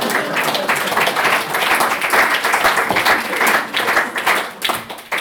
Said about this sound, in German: Ihr dürft klatschen.